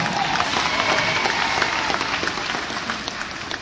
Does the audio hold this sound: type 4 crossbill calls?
no